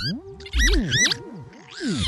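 Electronic music in a minimal-techno style built from various bird calls pitched down, including a lapwing's song, with delay effects: warbling, swooping tones rise and fall in looping patterns over a low, pulsing bass thud, with chirpy upper trills. No one speaks.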